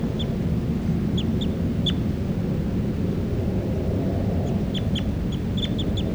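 birds calling

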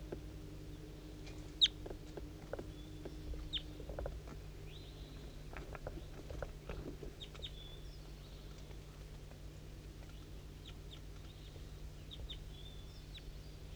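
wild bird calling nearby

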